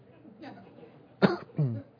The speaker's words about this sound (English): Listen, honey, I don't like the sound of that cough. I've called Dr. Davis, and Dr. Davis is going to rush right over.